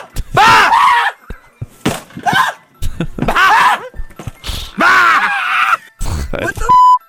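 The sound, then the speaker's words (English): A man screams and shrieks in loud, strained bursts, over and over, as his office door is kicked in, with brief pauses between outcries and a few sharp thumping impacts mixed in. “screaming and shrieking over and over again.”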